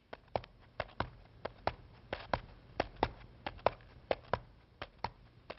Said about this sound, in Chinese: 不一会儿他听见了脚步声。